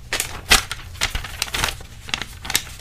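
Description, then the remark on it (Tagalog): Paper being torn into half sheets: several sharp ripping bursts in quick irregular succession, with soft crinkling between them and no voices. “Sapat ang ating mga libro, kaya ngayon maghahati-hati na lang muna ulit ang magkakatabi. Sa isang kalahating papel, isulat ang inyong mga sagot sa mga tanong na nasa pahina 40.”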